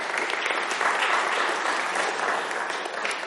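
A room full of people claps together in a sustained, dense round of applause, steady and fairly loud throughout with no voices standing out.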